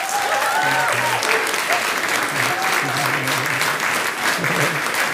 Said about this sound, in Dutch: Maar eerst wil ik jullie graag voorstellen en wil ik eerst jullie hartelijk applaus voor de vrouw die ik het komend uur hier ga interviewen. De lijsttrekker van de Partij voor de Dieren, Esther Houwehand.